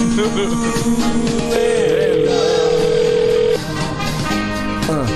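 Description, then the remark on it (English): A telephone line on hold, with steady electronic tones that hold one pitch, then jump to a higher sustained note for a couple of seconds, over a busy background of muffled sound. “Is that when he puts us on hold? Oh, we're on hold.”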